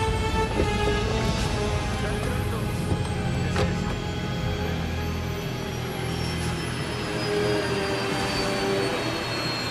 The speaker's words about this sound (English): As they pull into position, Hector immediately jumps out to watch the plane grind to its final halt.